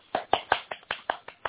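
Eight or so quick hand claps in a steady, even rhythm, fairly close and moderately loud, with no talking over them.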